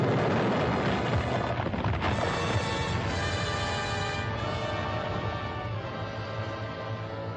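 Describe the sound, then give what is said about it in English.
A massive underwater explosion of a 10-ton delayed-action bomb dropped deep in the water behind a concrete dam bursts the dam, unleashing a loud, sustained rumbling roar with a heavy rushing churn that rolls on for several seconds before easing slightly. No voices are heard. “But when a 10-ton delayed action bomb is dropped, not on the concrete structure, but deep in the water behind the dam, its explosion will multiply the pressure of the water far beyond the structural strength of the dam and crush it like an eggshell.”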